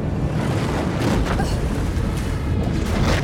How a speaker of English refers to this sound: The shark rams up into the boat.